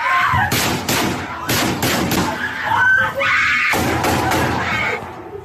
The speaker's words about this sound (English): And in the clip, the students are huddled on a classroom floor. They're trying to stay away from the windows. And outside the door, there's a killer firing an AR-15. This is the audio.